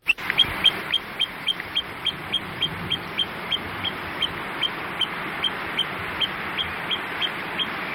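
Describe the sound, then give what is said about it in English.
A group of plovers, New Zealand birds at risk of extinction, call in short, high piping notes. The notes repeat at a steady, fairly quick rhythm, about two or three per second, over a continuous rushing wash of ocean surf. “Just because we can and just because we've been talking about New Zealand birds online, we're going to take a wee listen to what you would hear if you were in their proximity. Here's a bunch of them.”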